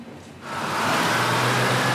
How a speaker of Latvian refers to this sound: Garām pabrauc otrs autobus, tad trešais un ceturtais tukšs. Tie visi ir tukši.